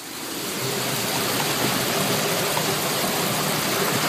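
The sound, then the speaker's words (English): Steady rushing of deep floodwater flowing around a backyard, blended with falling rain, a dense, even wash of noise that swells in over the first half second and holds constant, with no voices. “Oh, we've got some stuff floating, a little more rain coming in now.”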